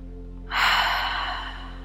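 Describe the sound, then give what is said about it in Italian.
A single deep, airy breath taken during a guided exercise, swelling quickly and then slowly tapering off, with no talking and only a faint steady hum underneath. “E ora fai un bel respiro profondo.”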